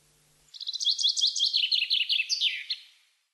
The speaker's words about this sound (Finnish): Vanhamo kuuntelee kuusikosta kajahtelevaa riemukasta linnunlaulua ja toista, joka tekee mielen hieman surulliseksi.